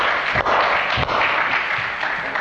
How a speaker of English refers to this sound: I'm telling you, Isaiah 53:4-5 is for you right here, right now, in this age, in this dispensation, and that ought to make you excited and give God a hand clap of praise in this house.